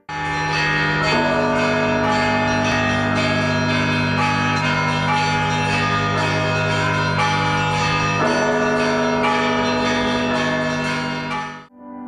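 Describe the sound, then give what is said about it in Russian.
Large new church bells on the belfry of the Holy Dormition Cathedral in Odesa, the largest weighing 4.5 tonnes, peal continuously, deep booming tones layered with bright overlapping strikes that ring out and sustain richly, loud and full throughout with no voices. “3 ноября усердия митрополита Агафангела были доставлены новые колокола и установлены на звоннице Свято-Успенского собора.”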